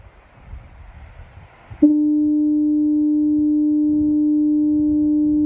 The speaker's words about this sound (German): Das ist das Nebelhorn des Leuchtturms gewesen.